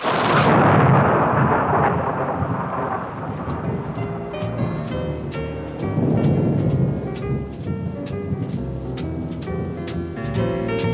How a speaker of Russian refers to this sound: Она боится грозы. Когда-то она так и сказала. А может быть, там не будет грозы.